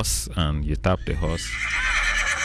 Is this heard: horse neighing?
yes